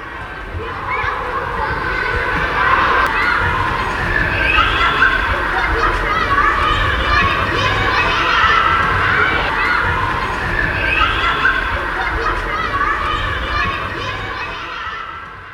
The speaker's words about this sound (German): Die erste große Pause. Es herrscht ein großes Gewusel auf dem Schulhof. Einige Kinder spielen mit dem Ball, andere spielen Fangen oder rennen einfach umher.